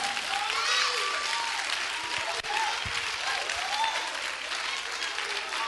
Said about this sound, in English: Now I need three people to just clap on mercy. Mercy.